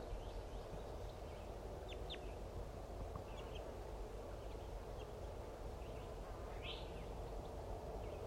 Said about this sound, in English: There's a female going down. Joined by a chittering male. Pair birds going down.